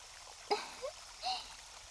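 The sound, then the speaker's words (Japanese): A river rushes steadily below a window, a soft continuous hiss of flowing water, with a few brief splashing gurgles rising over it. “窓の下は川なんだね。”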